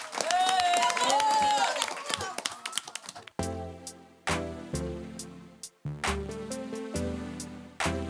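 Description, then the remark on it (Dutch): A crowd applauds loudly for a band for about three seconds, a dense wash of clapping with some tonal sound mixed in, before it cuts off and music starts playing. “Mag nog een groot applaus voor ….”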